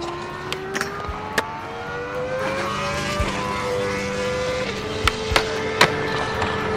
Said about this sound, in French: Ah, attention, attention, ça revient. Le moustique.